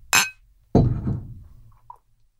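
Glasses clink together in a toast: one bright, sharp chime, then a heavier knock with a short ringing decay. Both are close and fairly loud, with no talking.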